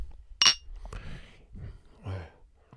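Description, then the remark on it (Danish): A single sharp, bright clink of glasses of mango IPA beer meeting in a toast, followed by quiet breathing and faint murmuring voices. “Skal vi skåle?”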